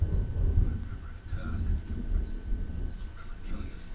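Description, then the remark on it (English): A deep, continuous rumble of thunder rolls for several seconds, swelling and fading slightly. It is fairly loud and heavy in the low end, with a faint hiss of weather noise above it. “Wow, Ryan, even the thunder is louder than you.”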